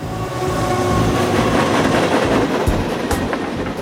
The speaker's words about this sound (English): I said, he can hear the train as it goes by.